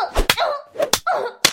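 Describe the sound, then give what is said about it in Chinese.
Three sharp, loud slaps on skin land at uneven intervals, each a crisp smack. Between them a voice makes wordless, drawn-out vocal sounds. “你打得越重，婊子这条狗就越爽。”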